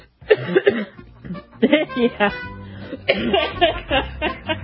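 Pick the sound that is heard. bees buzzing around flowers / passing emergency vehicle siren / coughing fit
coughing fit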